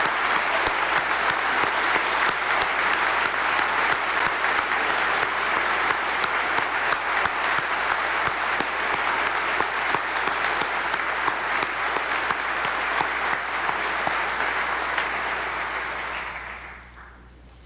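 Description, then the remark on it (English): Sustained applause from a large audience honoring military service members, a dense steady patter of many clapping hands holding at an even, loud level for about sixteen seconds before quickly fading out. “Let's give a round of applause as our representatives for our fine men and women of service.”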